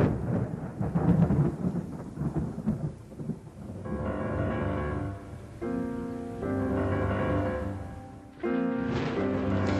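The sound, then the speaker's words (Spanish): A deep, rolling thunder-like rumble opens the piece, then sustained instrumental chords swell in and hold, giving the music a stormy, atmospheric feel; no voices are heard. “Y a nosotros nos sonaba a tormenta, a agua, a sí. naturaleza.”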